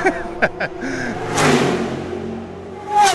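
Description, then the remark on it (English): Race car engines roar past on a track in quick succession, a loud whooshing pass midway and another surging in at the end, with rising and falling engine pitch and a steady background din. “Every American imagines themselves in that cockpit of the race car, going fast, having a blast.”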